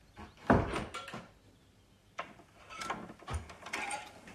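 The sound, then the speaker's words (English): A bedroom door in a house is closed: a sharp thump near the start, then scattered creaks, latch clicks and rattling knocks spread over several seconds, with no one talking. “Chris ascends the stairs, enters, then closes the bedroom door.”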